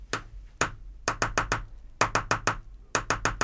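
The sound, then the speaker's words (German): Crisp knocking in a steady rhythm: two separate knocks, then quick bursts of four, five and four raps, like a woodpecker pecking. No voices. “Wer klopft da? Ein Specht?”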